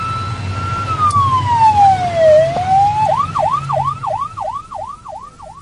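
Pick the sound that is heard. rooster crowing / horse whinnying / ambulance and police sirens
ambulance and police sirens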